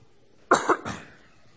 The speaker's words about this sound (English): I promise to try and keep my coughing to a minimum today as we try and go through this.